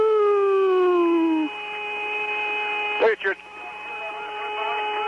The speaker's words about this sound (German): Drei Astronauten flogen zum Mond und auf seiner erdabgewandten Seite machten sie diese Tonbandaufnahmen, die aus ihrem Funkgerät kamen. Hast du diesen pfeifenden Ton auch gehört? Klingt wie Space-Musik.